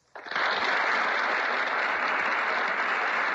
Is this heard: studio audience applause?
yes